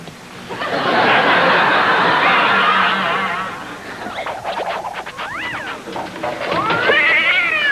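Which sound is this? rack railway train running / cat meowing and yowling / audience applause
cat meowing and yowling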